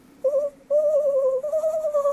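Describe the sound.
Someone imitates an owl with a short hoot, then a long drawn-out one that slides into another sustained hoot. The voice is fairly loud, with no talking.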